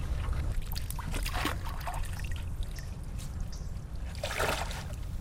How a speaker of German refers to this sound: Statt Ruder hat er einen Stock. Patrick steckt ihn tief in den Grund der Ill und stößt sich ab.